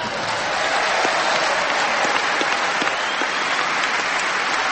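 audience applause

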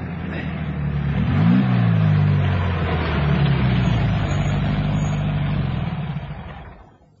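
car engine idling

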